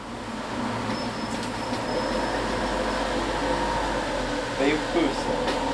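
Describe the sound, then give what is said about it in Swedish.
A green, beautifully painted mobile library bus rolls in at Skillinge bus station, its engine rumbling and humming steadily, a continuous low mechanical drone with a brief squeak near the end. “Hej, och i närheten av busskuren på Skillinge busstation har ett 10-tal personer samlats när den gröna, vackert målade bokbussen så småningom rullar in.”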